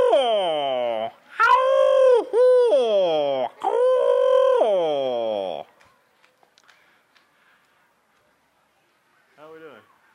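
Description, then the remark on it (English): A voice imitates the calls of screech owls, small owls: loud, wavering wails that slide downward in pitch, a few in close succession, then a quieter pause and one short final cry. “Now down around home, we used to hear some of the screech owls, the smaller owls, and if you're sleeping soundly and happen to wake up, they could just about scare you to death.”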